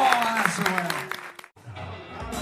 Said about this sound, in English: Let's have some applause.